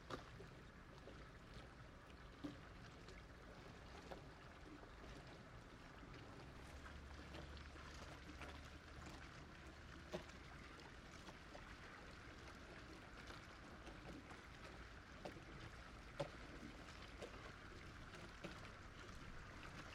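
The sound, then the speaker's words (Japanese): Gentle waves lap at the water's edge where people are fishing, in a steady, continuous wash with occasional soft splashes standing out. No voices, just the even, moderately quiet sound of water throughout. “あの人たちもこういう波の音を楽しみながら釣り糸を垂らしているのかな”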